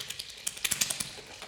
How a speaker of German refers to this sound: Rechts trommelt der Regen mit einem tieferen, gleichmäßigen Klang auf den Rasen. Ich kann sogar die Konturen des Rasens ausmachen. Noch weiter rechts höre ich, wie der Regen auf den Zaun klopft.